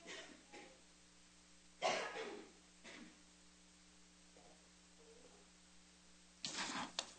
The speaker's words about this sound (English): And so, I am going to cough, so I need to.